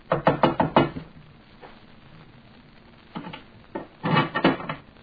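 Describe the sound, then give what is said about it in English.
A waiter knocks on an iron door at the top of a narrow staircase: a quick run of five sharp raps, a pause with a few scattered taps, then another burst of loud knocks, with no voices. “The waiter rapped on the door.”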